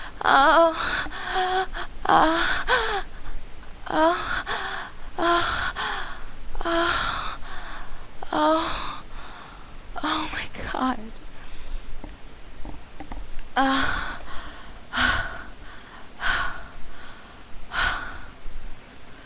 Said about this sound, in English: I'm sorry for all the heavy breathing, but it kind of comes with the territory.